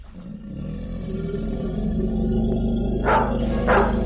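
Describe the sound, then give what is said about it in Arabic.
A deep, rumbling beastly roar of tigers growls steadily and loudly throughout, broken near the end by two sharp, harsh bursts like the snarling barks of raging black dogs, with no voices. “كلاب سوداء هائجة تنبح، نمور، تنانين، أفاعي.”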